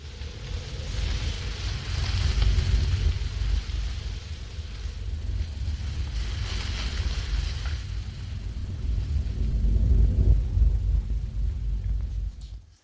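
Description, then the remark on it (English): Wind blowing through giant Suzuki grass in a remote swampland: a steady, breathy rushing roar with a deep rumble underneath, swelling in slow gusts every few seconds. No voices. “So here for the clip is the sound of the wind in the grass.”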